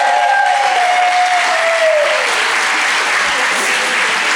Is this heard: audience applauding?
yes